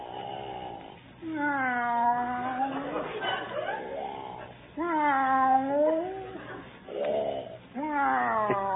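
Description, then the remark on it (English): A man, taking a cat nap in the other room, snores in drawn-out, wavering cat-like meows and yowls, a voice imitating a cat in several loud cycles with brief pauses between them. “Taking a cat nap.”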